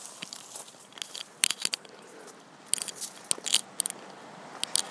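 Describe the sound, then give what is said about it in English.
Dry autumn leaves crunch and crackle underfoot as someone walks through a deep pile of them, in a loose rhythm of bursts, fairly loud, with no talking. “One of the things I like about walking in autumn is the crunching of the leaves. You can probably hear it there, right through a deep pile of them.”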